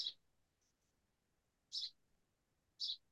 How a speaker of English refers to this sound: All right, so who's got their window open? I can hear birds chirping.